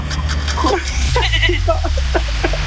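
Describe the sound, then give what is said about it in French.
A person imitates a goat's bleat with a series of wavering, nasal vocal bursts, fairly loud over a low steady background hum. “Pourtant, il y a eu l'imitation, un peu tard, mais il y a eu l'imitation.”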